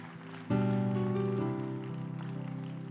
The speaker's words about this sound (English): In Jesus' name, and everyone clapped and said, amen and amen and amen.